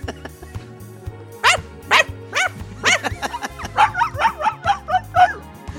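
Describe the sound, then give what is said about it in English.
A white dog barks and yips repeatedly in quick, excited bursts, getting busier toward the end, over a steady low background hum or music. “And if you get upstaged by your white dog doing a whole fucking dance...”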